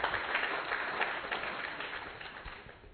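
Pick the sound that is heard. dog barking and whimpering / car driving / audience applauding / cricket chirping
audience applauding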